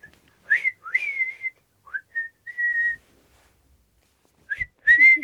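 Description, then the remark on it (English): A person whistles to call the dogs Woof Woof, Bony and Shadow: a series of short, bright calls with rising chirps and a few sustained notes, then a pause before two more quick upward whistles, fairly loud with no talking. “Come here, boy. Come on. We have... Whistle.”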